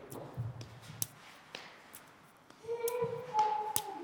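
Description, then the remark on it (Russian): Several sharp slaps of a hand against a leg after throwing a ball during a ball exercise, spaced about half a second apart, quiet, with soft shuffling between them and a faint whistling tone toward the end. “Для того, чтобы добавить сложности, можно хлопать себя рукой по ноге после броска.”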